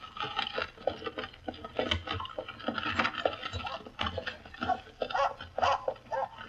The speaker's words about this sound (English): There he goes. He leaps into the carriage onto his mistress's lap. By Jove, he's snarling. He's trying to bite the woman. Get that confounded dog out of here.